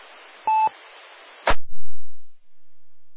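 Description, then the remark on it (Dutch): A single short electronic beep tone sounds over a faint hiss, followed by a sharp click and a low thump as the line cuts off, leaving silence. “De wieper is al waarschijnlijk telefoon.”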